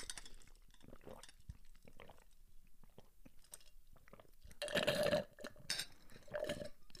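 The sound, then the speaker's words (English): Several people chug drinks for five seconds, with wet swallowing and mouth noises, followed by a couple of louder bursts of breathy exhales near the end. “He's a powerful lord that would also command us immediately to do a 5 second chug.”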